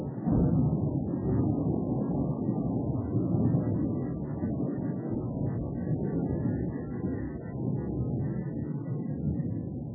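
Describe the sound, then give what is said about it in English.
A steady, deep rumbling recorded thunderstorm fills the whole stretch, like rolling thunder mixed with wind, fairly loud and unbroken, with no sharp cracks and no voices. “Something that was really popular was to help pets with their being afraid of thunderstorms.”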